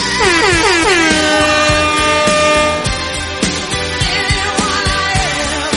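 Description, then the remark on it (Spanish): Loud air horn blasts blare almost continuously, opening with a downward pitch bend and then sounding in repeated pulsing honks for several seconds, with no voices. “¡Arriba esa bocina!”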